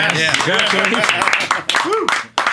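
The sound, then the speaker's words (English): Steady applause of many hands clapping, dense and fairly loud, mixed with overlapping voices talking and calling out, with a brief dip in the noise near the end. “I'm applauding that.”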